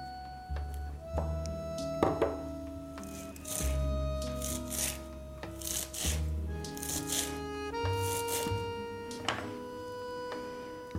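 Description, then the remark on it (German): A knife slices through fresh, already washed herb leaves on a board in a run of crisp, rustling cuts at an uneven rhythm, with steady background music underneath and no talking. “Und dann schneiden wir ein bisschen die Blätter, die ich schon gewaschen habe.”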